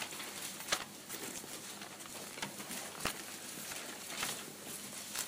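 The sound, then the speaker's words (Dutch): Pages of a book being flipped a few pages back to Ephesians 3, a run of soft papery rustles with a few sharper flicks standing out, and no voices over it. “Een paar bladzijden terug naar Efeze 3.”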